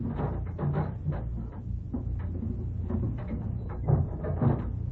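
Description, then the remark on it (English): A soundproof door is opened, with a low rumbling scrape and a few soft knocks and clicks spread over several seconds, and no voices. “shouldn't you listen before you open it? Wouldn't do any good. They're soundproof.”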